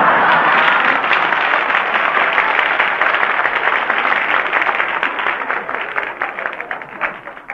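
A crowd breaks into sustained applause, a dense, crackling wash of many hands clapping at once. It stays loud and steady before thinning slightly toward the end, with no voices.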